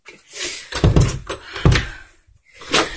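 Several heavy, irregular knocks on a door, loud, each a dull thud with a short ring-out, spread over a few seconds with brief pauses between.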